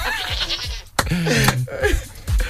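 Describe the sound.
A person imitates a goat's bleat with wavering, quavering vocal bleats repeated several times in close succession, loud, with no other talking.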